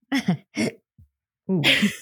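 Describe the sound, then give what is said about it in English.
Two quick voiced bursts of a laugh and a tiny low grunt, then a louder, longer, rough guttural burp with a harsh, airy edge, all from one voice with no words. “It was a laugh turned burp turned, I don't know, man.”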